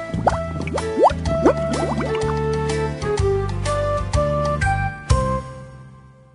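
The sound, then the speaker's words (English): A quick flurry of bubbly, rising plops and pops, like bubbles bursting, mixed with bright tinkling chime notes over a steady musical backdrop; no one speaks. “Bubbles are on the fish.”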